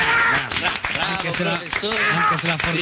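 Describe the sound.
A crowd claps steadily and loudly for about three seconds, with a dense wash of hands mixed with voices cheering and calling out over the applause.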